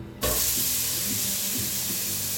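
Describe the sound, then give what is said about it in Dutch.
A soy burger goes into a frying pan on a low heat with a sudden burst of loud, steady sizzling that carries on evenly and densely, with faint low crackles underneath and no voices. “De eerste hamburger. Ja, hamburger, wat is het? Burger. Soja unit. Gaat de pan in.”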